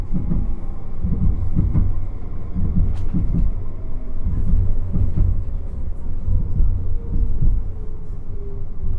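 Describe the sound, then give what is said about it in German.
A tram rumbles steadily along, its low-frequency drone filling the space with irregular clunks and rattles, plus a faint high squeal, heard from inside the car as it turns into Georg-Schumann-Straße just past the main station. “Kurz hinter dem Hauptbahnhof biegt die Bahn in die Georg-Schumann-Straße ein.”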